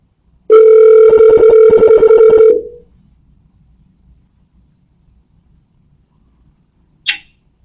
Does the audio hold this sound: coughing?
no